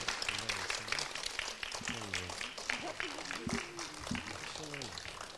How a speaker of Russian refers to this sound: Аплодисменты, аплодисменты.